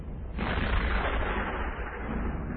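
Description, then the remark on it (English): A boom like cannon fire or thunder breaks in after a brief pause, then rolls on as a heavy, sustained rumble with deep low-end weight and no voices. “That could be cannon fire. Cannon fire or storm, it's all the same to you.”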